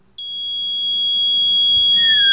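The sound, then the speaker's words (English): A female singer holds her highest note, an extremely high, piercing G-sharp 7, steady and loud like a whistle, sustained for about two seconds with a slight pitch slide near the end. “Yes, that is a G-sharp 7.”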